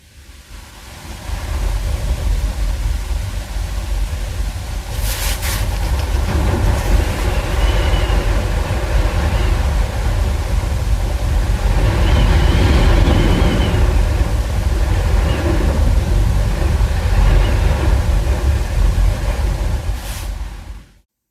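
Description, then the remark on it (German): Strong wind roars steadily for about twenty seconds, heard from inside a room, with broad low rumbling and surging gusts plus a few brief rattling clicks; no one speaks. “Und ich habe versucht, aus unserem Zimmer diesen Wind aufzunehmen.”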